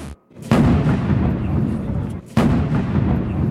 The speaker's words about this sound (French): Ça, c'était hier, les coups de canon tirés depuis les Invalides, juste après la cérémonie d'investiture d'Emmanuel Macron, dans la salle des fêtes de l'Élysée.